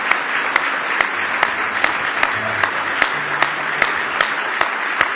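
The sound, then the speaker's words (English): A church audience claps hands in praise of God in a dense, sustained burst of applause, with sharper periodic accents of a few louder claps roughly every half second and a faint low murmur underneath. “Give Him a hand clap of praise if you love Him this morning.”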